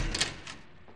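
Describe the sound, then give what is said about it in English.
A door opens with a short, soft clatter of latch and hinge, two quick scraping bursts, fairly faint and with no voices. “I was nearly over him when I heard the door open.”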